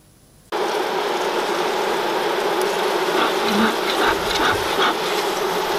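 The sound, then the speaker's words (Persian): A dense, steady buzzing of many wild honey bees starts abruptly and continues as a loud swarm drone with a faint higher whine rising briefly through it, in the forests of the Republic of Bashkortostan, Russia, during traditional wild honey harvesting; no one speaks. “این دستگاه دودساز زنبورداری، طناب‌های مخصوص و برداشت سنتی عسل زنبورهای وحشی میراثی هستند”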